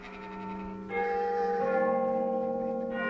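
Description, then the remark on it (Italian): Church bells ring out in several overlapping strikes, each new clang layering over the long, shimmering hum of the previous ones. The tolling is full, with no voices. “Qua sembra un po' anche Squadra Italiana con le campane.”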